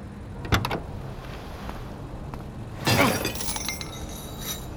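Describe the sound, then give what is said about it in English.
A lock on the gate of an airport landing strip being smashed: a sharp metallic strike, then a second, louder crashing blow with a brief clattering tail, over steady low engine-like rumble. No one speaks. “smashed a lock on the landing strip's gate, and we drove right on the runway.”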